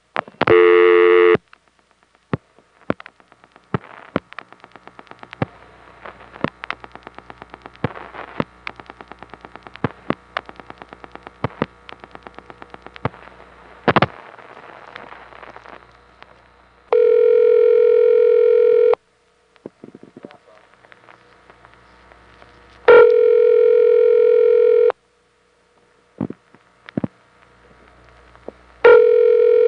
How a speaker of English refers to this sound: Now here's an intra-office call in the Rising Sun Pentaconta, starting with dial tone coming on, which is a little different from Crossbar 5.